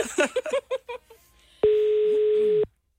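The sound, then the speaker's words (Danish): A voice chatters briefly, then a steady, loud telephone tone sounds for about a second before cutting off abruptly, as a phone call is dialed to a contest winner. “Må vi ringe til en vinder, der ikke har taget en konkurrence?”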